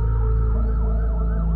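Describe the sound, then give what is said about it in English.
An ambulance siren wails loudly and continuously, its pitch sweeping up and down in repeated cycles over a deep, steady engine rumble, with no voices present. “Suddenly, his parents, they showed up. Ambulance.”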